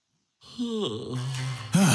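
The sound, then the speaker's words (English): A single drawn-out human yawn, a breathy voiced groan that sags in pitch, then swells into a louder, airy finish, with no talking around it. “That makes me yawn.”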